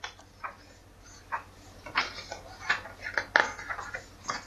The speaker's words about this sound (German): Das Blättern. Ja, das ist doch sehr Büchelsymbol.